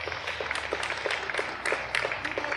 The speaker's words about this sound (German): Der hier ist es jetzt klatschen sie schon wieder, warte.